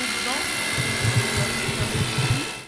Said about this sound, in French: Une perceuse. C'est un outil pour faire des petits trous dans les murs.